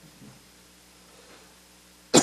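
A single loud, close cough bursts out abruptly at the end after a stretch of near silence with faint background murmur.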